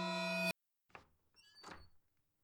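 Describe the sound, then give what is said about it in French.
A brief steady tone cuts off, then a bedroom door creaks slowly open over about a second, with soft squeaks and a low wooden rumble, fairly quiet. “Ta honte se mélange à l'horreur quand tu entends la porte de ta chambre s'ouvrir doucement.”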